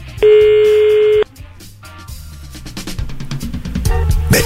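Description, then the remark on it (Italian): A single steady ringback tone, about a second long and fairly loud, sounds on an outgoing phone call to a person in Tuscany, then gives way to busier background music with percussive beats. “Ecco, si chiama un toscano, la Toscana, e avrò un minuto di tempo per far dire a questa persona, risponderà al telefono, la parola tetto.”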